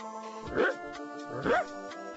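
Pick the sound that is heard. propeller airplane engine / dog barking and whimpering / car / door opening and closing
dog barking and whimpering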